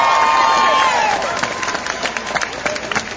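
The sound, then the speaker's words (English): A crowd bursts into applause and cheering for Mark Warner, with a high whoop riding over dense, steady clapping that stays loud throughout. “Give Mark Warner a round of applause.”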